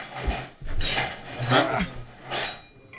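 Glasses clinking together in a toast: several short bright taps about a second apart, mixed with scraping and rubbing handling noise, and no one speaking.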